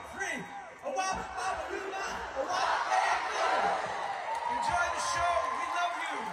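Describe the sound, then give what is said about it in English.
A large crowd at an appearance with Grease castmates yells together on cue after a count to three, a loud, sustained wall of voices that swells into whoops and cheering and stays strong for several seconds. “making a couple of movie references before getting some crowd participation.”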